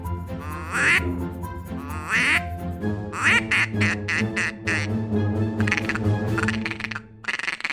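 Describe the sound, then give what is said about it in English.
A handheld duck call blows loud mallard quacks: a male mallard call and a female mallard call as drawn-out raspy calls, then a fast, chattering imitation of ducks feeding, running continuously for several seconds with no talking. “That was three calls. It was the male mallard call, it was the female mallard call, and it was ducks feeding.”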